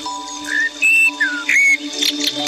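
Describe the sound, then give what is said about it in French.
A phone alarm set for leaving for school rings with a bright, whistle-like melody of short tonal notes that step up and down in pitch, playing steadily and fairly loud with no one talking over it. “Ah bah, il y a le réveil. Réveil départ école.”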